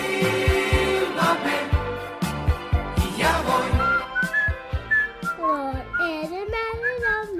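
After a few seconds of music with punchy drum hits, three people whistle, their bright, wavering tones sliding up and down in a loose, uneven tune.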